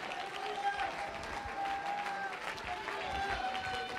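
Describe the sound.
An audience claps together in a dense, steady wash of applause, with a faint sustained tone running underneath and crowd voices mixed in.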